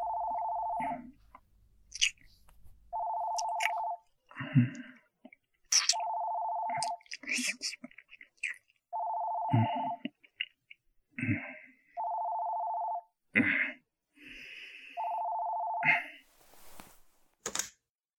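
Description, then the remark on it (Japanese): A telephone rings over and over with an incoming call from a client, steady electronic tone bursts repeating at an even pace, with soft clicks and rustling movement filling the gaps between rings. “向こうから電話が来るまでの間、もう少しだけ君を堪能させてください。”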